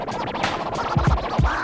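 A tile cutter scores a tile with a steady, rasping scratch that runs the whole time, broken by a few low thumps near the end. No one speaks.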